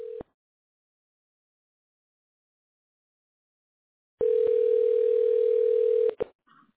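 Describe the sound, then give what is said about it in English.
A phone ringback tone: a steady electronic hum that cuts off at the start, then after about four seconds of silence returns for a two-second ring, clear and fairly loud, with no voices. “Oh, it's ringing.”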